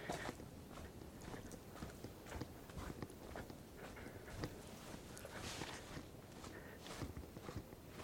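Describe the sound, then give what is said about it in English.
Footsteps crunch along a winding, zigzagging dirt path among oak trees and ferns on a moonless night, at a steady, unhurried walking pace, each step a soft gritty scuff over a faint rustling background, with no one talking. “I'm walking down this dirt path.”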